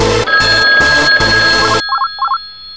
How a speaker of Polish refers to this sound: Na recepcji telefon odebrała